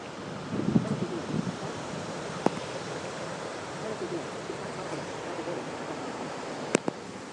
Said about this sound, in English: Oh, I was going to end this. I thought I had a pretty good gust there. That's what I was trying to catch.